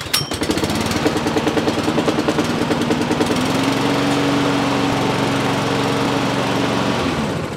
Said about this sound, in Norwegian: Skal vi teste gressklipperen først? Jeg tror du ikke tror på at den virker heller.